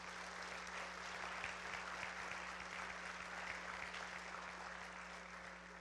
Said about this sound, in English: the elderly that did the kitchen, I would like for everybody to clap for them, because those people meant so much to our family.